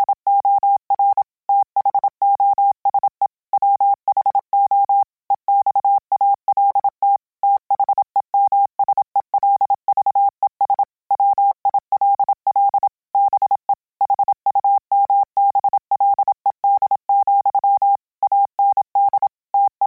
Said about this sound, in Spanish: Hemos oído hola en Morse y ahora vamos a oír algo más complejo, un versículo del Evangelio.